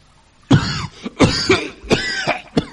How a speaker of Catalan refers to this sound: Quant de temps fa que tens aquesta tos? No és res.